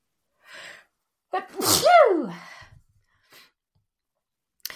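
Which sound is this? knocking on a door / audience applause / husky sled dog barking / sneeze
sneeze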